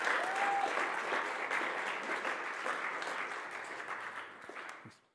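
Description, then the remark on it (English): A crowd claps steadily in a dense wash of applause, holding strong for about five seconds before quickly fading out; a faint whistle-like tone sounds briefly at the start. “Can we just give them a round of applause again, please?”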